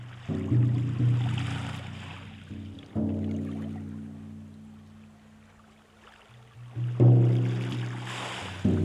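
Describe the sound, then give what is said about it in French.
Ocean waves wash onto sand in three slow surges a few seconds apart, each swelling loudly then receding, with a steady low drone running underneath and no one speaking. “Dans le silence total de l'errance, les vagues viennent inlassablement, le sable recule.”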